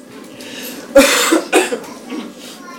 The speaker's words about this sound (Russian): Извините, буду кашлять немножко.